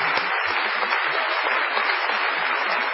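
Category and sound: crowd, audience ovation applause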